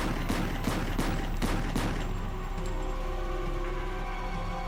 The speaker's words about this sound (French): Un homme masqué s'approcha et fit feu 16 fois sur lui, presque à bout portant. Le policier n'eut aucune chance.